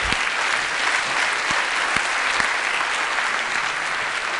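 Sustained audience applause, a dense steady wash of many hands clapping at an even level throughout, with a few sharper individual claps standing out briefly.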